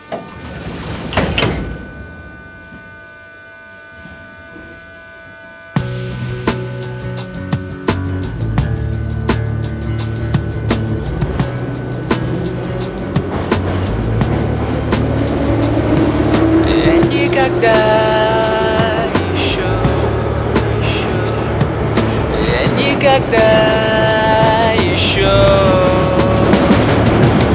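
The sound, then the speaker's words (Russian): Metro train doors thud shut with a brief clatter, then after a short lull the train pulls away toward Kantemirovskaya station, its motors whining upward in pitch over a steady, growing rumble. “Осторожно, двери закрываются. Следующая станция Кантемировская.”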